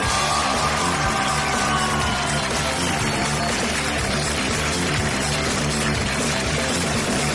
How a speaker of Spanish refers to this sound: Y que siga el aplauso, que siga, porque esto es Papelitos del Público por Hablando Hueva.